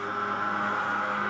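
A steady, droning motor hum from a truck fogging the streets with disinfectant to kill cockroaches and mosquitoes, with a constant whine and rumble at an even loudness, and no voices.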